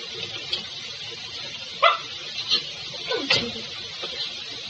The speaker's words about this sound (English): Let the dog in. This is no doing of his poor creature.